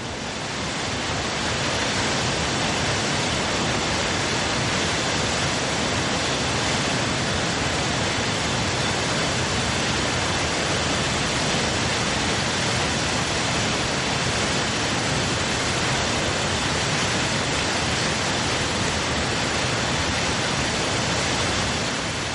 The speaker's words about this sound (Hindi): आगे चलकर दर्शन होते हैं धनछो झरने के।